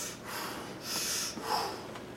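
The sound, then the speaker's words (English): A voice imitates the deep, labored Kussmaul end-of-life breathing of a dying man: a few heavy, rasping breaths drawn in and pushed out, fairly loud, with no other talk. “He was doing the end-of-life breathing. It's called Kussmaul breathing. Deep and up.”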